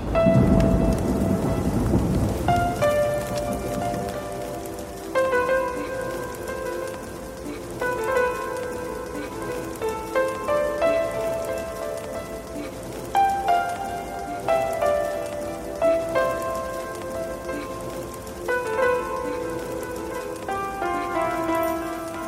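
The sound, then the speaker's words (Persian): A deep roll of thunder opens, then steady rainfall hisses throughout while a gentle melodic tune plays softly over the downpour. No voices. “نمیدونی چقدر حس بدیه که تنها زیر بارون مونده باشی”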